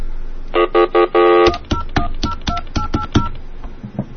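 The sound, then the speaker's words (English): A telephone rings in a few short electronic bursts, then a rapid series of sharp button beeps dials out to the phone company AT&T, each tone brief, with no voices. “Very strange things are happening with the phone tonight.”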